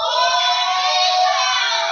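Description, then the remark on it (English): A crowd of Auburn fans roars a loud, drawn-out War Eagle cheer, many voices blending into one sustained shout that holds steady for about two seconds without letting up. “All Auburn fans, give me a big War Eagle.”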